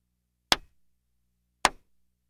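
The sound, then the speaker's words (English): Two sharp hand claps in a phonics game, clapping twice because both words start with the sound D; each a crisp burst a little over a second apart that fades quickly, with silence around them and no voices. “If both words start with the sound D, you clap twice.”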